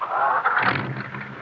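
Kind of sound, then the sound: vehicle, car engine starting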